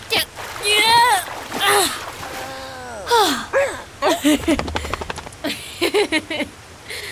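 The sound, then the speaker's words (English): Water splashes and sloshes in a short burst of wet, clattering movement as a dog is helped out of salt water, mixed with strained, effortful vocal sounds. “Here, let me help you out of the water.”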